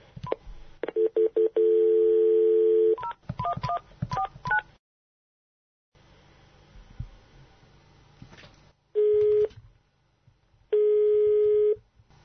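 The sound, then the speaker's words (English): A dial tone gives way to a quick run of touch-tone keypad beeps as a call is placed to Germany, then a pause and two long, steady ringback tones as the call goes through, with no voices. “It's getting pretty late in Germany, so let's give Pfizer Wolf a call.”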